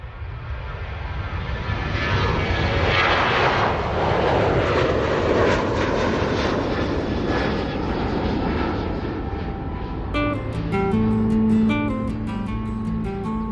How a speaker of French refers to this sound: Avion BB34, ici tour de contrôle. Vous avez l'autorisation de décoller. Terminé.